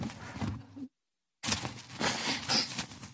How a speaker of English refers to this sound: Can I have a Kleenex? Okay, everybody close their ears. I'm about to blow my nose.